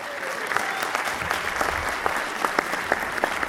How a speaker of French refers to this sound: Et je vous demande d'applaudir s'il vous plaît, monsieur David Coudizère des enfants de la télé.